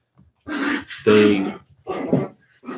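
Dogs bark in a handful of loud, rough bursts, each lasting under half a second, with short gaps between them and a growly edge to some of the barks.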